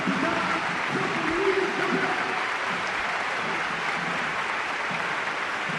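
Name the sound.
stadium crowd ovation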